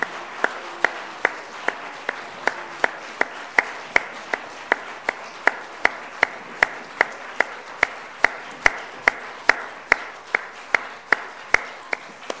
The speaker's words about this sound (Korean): 우리 계속 박수해 주시기 바랍니다.